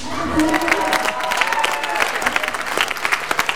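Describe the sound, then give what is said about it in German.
A crowd of about 100 spectators standing in the festival hall of a student house in Karlsruhe applauds steadily at the start of a Lego robot race, a dense patter of many hands clapping at once, sustained throughout, with faint murmuring voices mixed underneath. “Applaus.”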